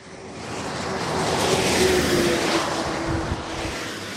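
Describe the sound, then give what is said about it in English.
A car slows to 30 miles an hour as it enters a small village north of Paris, France, passing a speed camera, its engine and tyre noise swelling to a peak and then easing off as it moves away. No one speaks. “Cars slowing to 30 miles an hour as they enter the little village of Perrois-les-Gombrys, north of Paris.”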